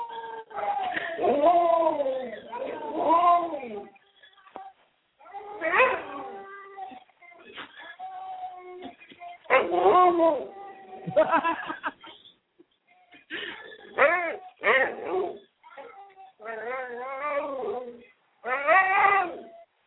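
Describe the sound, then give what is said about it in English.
A dog howls in a series of wavering bursts separated by short pauses, set off by a video of a dog howling, trading howls with a human voice that imitates the sound. “We howl at each other.”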